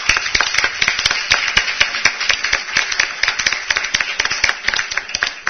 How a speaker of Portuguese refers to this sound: Então, houve outra vez um exemplo de força do coletivo e eu gostaria que nós nos manifestássemos com palmas à Escola de Museologia.